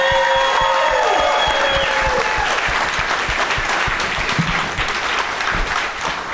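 An audience breaks into sustained applause, dense rapid clapping holding steady and loud for several seconds with a faint tonal hum fading early on.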